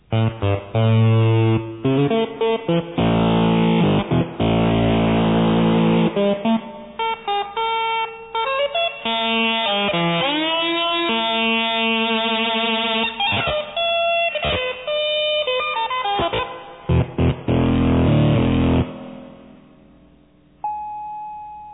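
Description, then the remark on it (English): A buzzy analog synthesizer with two oscillators, VCO1 and VCO2, plays a bright, harmonically rich melody, its pitch wavering with LFO sine-wave vibrato and sliding between notes. The tone is loud and continuous, ending with a brief thin beep. “Vibrato may also be desirable, and you should become skilled at moving the LFO sine wave input sliders on both VCO1 and VCO2 simultaneously.”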